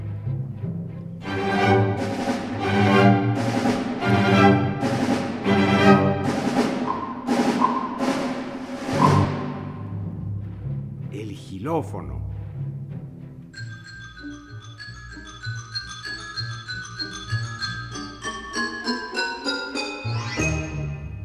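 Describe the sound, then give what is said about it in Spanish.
Percussion played in turn: brisk rhythmic jingling hits of a tambourine and crisp snare drum strokes, then a bright, high metallic ringing of a triangle struck repeatedly alongside sharp wooden clicks of a wood block, over a low sustained backing. “El tamborín y el triángulo. La tarola y la caja china.”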